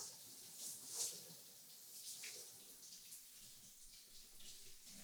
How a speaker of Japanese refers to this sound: うわ、冷たー。ちょっと待っててね。今、あったかくするから。うん。オッケー。あったかくなってきた。じゃあ、シャワーかけるよ。